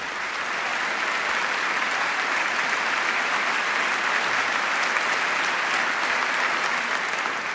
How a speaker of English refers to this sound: Lots of applause for this pitch for corporate responsibility and new accountability.